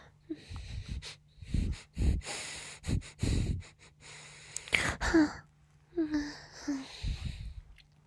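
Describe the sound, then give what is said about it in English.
Repeated sniffing: a string of short, breathy inhalations in irregular bursts, mixed with soft gasps and small vocal noises, over a faint steady hum. “Can I sniff you again?”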